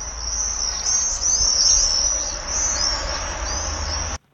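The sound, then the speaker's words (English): A swift's call: a shrill, high-pitched, buzzing trill that runs steadily for about four seconds with slight wavering, then cuts off abruptly, over a low background hum. “Trust me, whether you can hear it down the phone line or not, that's a swift, according to my producer, Ricky, who just recorded it off the internet.”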